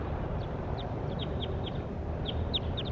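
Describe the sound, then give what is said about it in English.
A bird calls with a quick series of short, high-pitched chirps, about ten in all at an uneven pace, set over a steady wash of background noise with no talking. “That was bird 24.”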